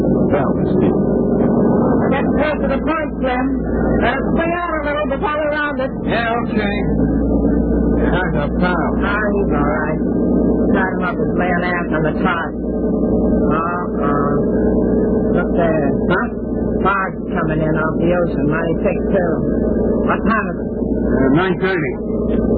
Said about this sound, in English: Their boat pulls away from the pier. It is a few minutes later.